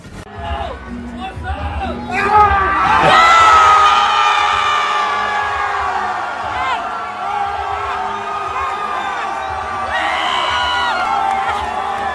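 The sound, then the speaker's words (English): A large crowd cheers and shouts continuously, a dense wash of overlapping voices with high whoops and yells rising loudest a few seconds in, then swelling again near the end. “That's a lot of people right there.”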